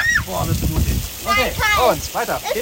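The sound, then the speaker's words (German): Running shower water hisses steadily while children's high voices squeal and call out, rising and falling in short bursts over the spray, as the children rinse off under a cold shower at the edge of a swimming pool. “Ich stehe warm angezogen wie lange nicht mehr mit Sweatshirt und Regenjacke am Beckenrand und bewundere die Kinder, die sich erst einmal kalt abduschen.”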